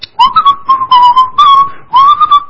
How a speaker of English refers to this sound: you're going to do the best job you can, and you're down there with that toothbrush, and you could be just whistling while you work.